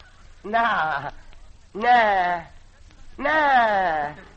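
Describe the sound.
Three goat-like bleats, each lasting over half a second with a wavering, falling pitch, come at roughly even intervals and sound thin and narrow, as if heard through a telephone.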